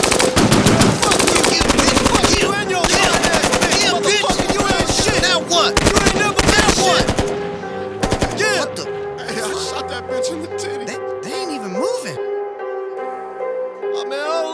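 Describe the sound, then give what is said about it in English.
Rapid, sustained bursts of automatic gunfire from a gun with an extended clip crackle loudly for several seconds, then cut off, leaving voices and tonal sounds behind. “Then somebody pulled up with extended clip. Yes, they did. Spray 60 at us, we ain't even flinch.”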